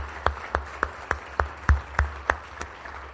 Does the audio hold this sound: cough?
no